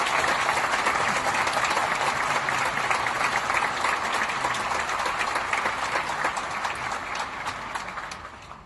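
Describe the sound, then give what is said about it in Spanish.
Sustained audience applause for the Ballet Estable of the Teatro Colón, a dense crackle of many hands clapping at a steady loud level, easing off slightly toward the end with no voices. “Hubo aplausos para el ballet”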